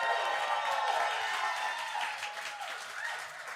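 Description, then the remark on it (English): A live audience at the Hard Rock Cafe claps and cheers loudly and continuously, a dense wash of applause with scattered whoops and shouts rising above it, tapering slightly toward the end. “I am currently at the Hard Rock Cafe live with a live audience. Make some noise.”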